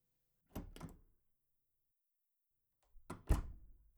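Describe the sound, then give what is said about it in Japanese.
The door of a room, right at the entrance, opens with a couple of muffled thuds and clicks, then after a quiet pause swings shut with a heavier thump and a brief rattling tail. “じゃあ、入ろ。玄関の前にすぐドアなんだね。”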